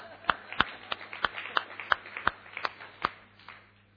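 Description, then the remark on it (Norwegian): Sparse, steady clapping from a small group of Sandnes Ulf supporters: about a dozen sharp claps in an even rhythm, fading toward the end, with no talking over it. “La oss gi en applaus.”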